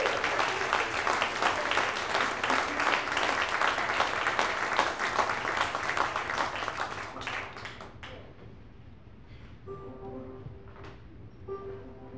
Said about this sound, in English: And please give another huge round of applause